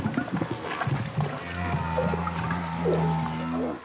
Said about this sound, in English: The discovery was made by studying 8 years' worth of humpback whale recordings and comparing them to the early speech development of humans.